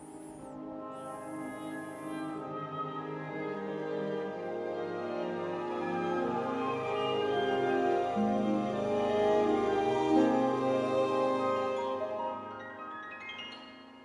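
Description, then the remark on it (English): An orchestral alarm-clock melody, used as a morning alarm, plays on its own: softly starting strings swell in a crescendo as brass and woodwinds join, louder toward the middle, then ease off, ending with harp and piano in the highest range, with no talking. “So this is the sound of my alarm clock, actually, in the morning.”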